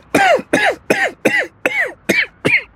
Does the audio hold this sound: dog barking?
no